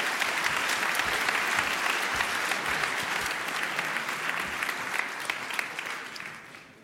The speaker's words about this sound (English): So give him a big applause.